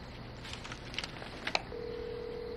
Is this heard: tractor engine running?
no